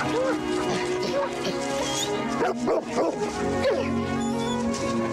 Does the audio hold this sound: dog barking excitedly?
yes